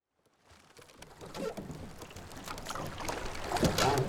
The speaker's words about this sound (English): The ropes lashing the boats together in a makeshift pontoon bridge strain and squeal as the sea beneath them rises and falls.